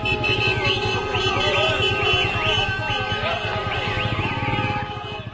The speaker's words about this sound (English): People took to the streets, massive traffic and crowds as people celebrated, Gazans celebrated what they saw as a victory for Hamas and for Gaza.